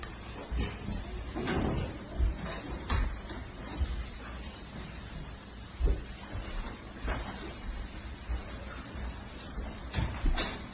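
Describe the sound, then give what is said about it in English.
A door is being shut, with a series of soft clunks and knocks spread unevenly over several seconds, a louder thump near the middle, against a quiet background. “You left the door open?”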